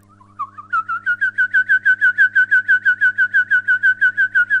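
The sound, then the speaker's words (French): A whistled imitation of a Eurasian wryneck's song: a rapid series of about twenty loud, evenly spaced notes, slightly slurred, that build up quickly and then repeat steadily at a high pitch with a faint low hum underneath. “Je pourrais imiter le torcol fourmilier, là, qui chante toujours.”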